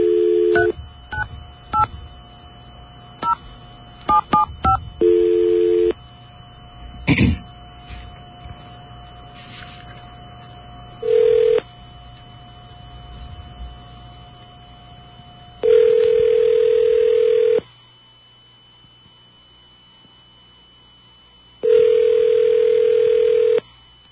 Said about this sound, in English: All right. I got a dial tone there? Thank you.